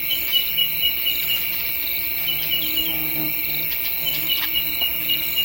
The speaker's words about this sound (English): Crickets.